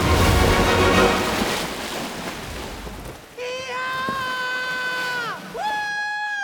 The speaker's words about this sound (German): Dann legen sie eine Bruchlandung hin und landen klatschend im Wasser.